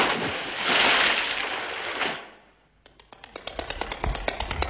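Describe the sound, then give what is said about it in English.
A loud rush of churning water for about two seconds, then quieter irregular splashes and sloshing slaps as someone who has fallen into water thrashes about, near midnight by the Zambezi Falls. “We've fallen into water.”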